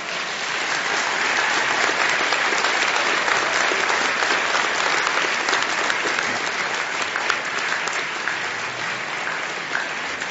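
Sustained audience applause, a dense, steady wash of clapping hands that holds at an even, fairly loud level for about ten seconds with no talking over it.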